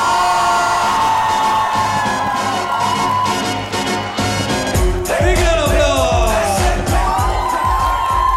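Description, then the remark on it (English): A comedy show audience cheers, whoops and yells loudly and continuously as comedian Kenny Sebastian is introduced, with a dense wash of applause and music-like tones underneath, swelling even louder in the second half. “some noise for the very funny, the very famous, the very talented Mr. Kenny Sebastian!”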